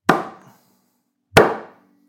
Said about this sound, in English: Just because I can't get through that with a knife. The sound of someone chopping cutting meat. A young cow.